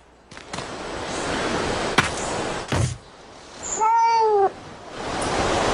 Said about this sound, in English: Maybe there was like a cat noise or something that happened.